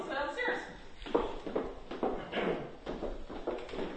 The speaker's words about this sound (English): Upstairs. The cool thing is I can edit out all these footsteps and stuff. Well, leave it in. You think so? Oh, yeah. Give it ambience.